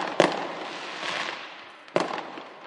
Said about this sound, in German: Silvesterböller